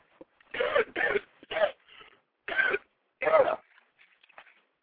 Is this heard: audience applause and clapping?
no